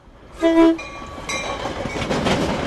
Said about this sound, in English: One flyover would be here near 63rd and State on Chicago's south side. Some Norfolk Southern freight trains sit for hours waiting for Metra commuter trains like this one to cross.